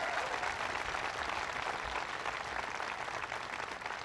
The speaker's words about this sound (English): And finally, the president of the college where we are here, Jim Jacobs. Give Jim Jacobs a big round of applause.